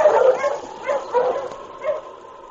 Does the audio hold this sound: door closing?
no